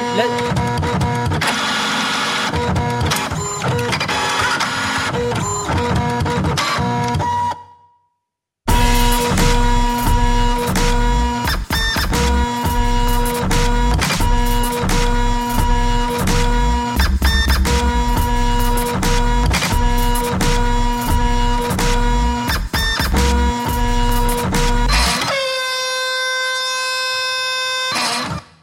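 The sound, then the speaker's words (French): A printer runs loudly, its motors whirring and clacking in a steady, rhythmic pattern, briefly stopping for a second before resuming and ending on a sustained high whine. “Je suis sûr que les imprimantes ont décidé de faire un morceau.”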